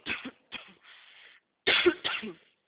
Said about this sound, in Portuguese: Um pouco de tosse, ó.